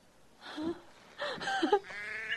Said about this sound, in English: Well, hello, sheep.